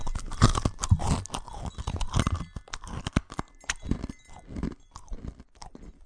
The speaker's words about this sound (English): And at the top of the hill, she comes upon a giant bowl of endless crunchy peanut butter and molasses doggy cookies. Crunch, crunch, crunch.